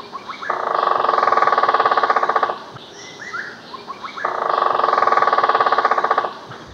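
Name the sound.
woodpecker drumming on wood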